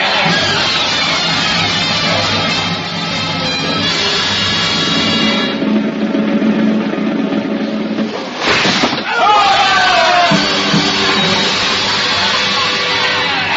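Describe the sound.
A large mob lining a Paris street screams and shouts together at guillotine executions, calling out the count as each head is held aloft, in a loud, continuous roar of many overlapping voices, broken briefly by a sharp burst of noise before the yelling surges again.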